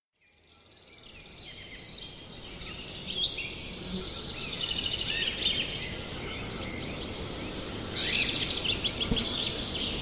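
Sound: birds chirping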